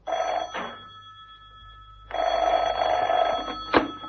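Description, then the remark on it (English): An old-fashioned telephone bell rings in two loud, rattling bursts, each lasting about half a second to a second and a half, separated by a brief silence. “Oh, thank goodness you've called, Colonel.”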